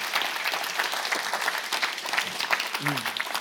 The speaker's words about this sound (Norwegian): Du et eksempel for, skal vi gi han en god applaus og si, fortsett! Fortsett! Vi heier på deg!